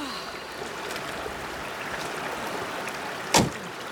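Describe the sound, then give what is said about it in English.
Steady rushing mountain river water at a ford fills the background, then a single sharp clunk of a Land Rover door sounds near the end as the Queen steps out of the car, halted in the middle of the river, into the water. No one speaks. “The Queen steps out of the car into the mountain waters.”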